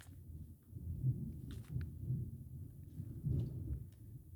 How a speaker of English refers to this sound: That's that thunder, ain't it? Nah, why the fuck would it? That shit had to hit on your front lawn. That shit didn't sound right.